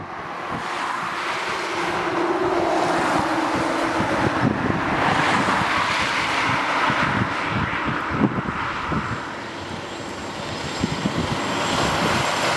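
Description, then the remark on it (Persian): A steady, roaring rush of wind buffets the microphone continuously, with low engine rumble and occasional thumps underneath, as air blasts through the lowered window of a car driving toward the desert. “حالا شیشه ماشین رو بکشین پایین تا هوا بیاد تو.”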